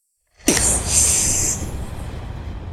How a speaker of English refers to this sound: I'd recognize that sound anywhere. It's a thunderclap.